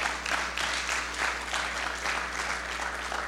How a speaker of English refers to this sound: Can we give a hand clap for the worship team?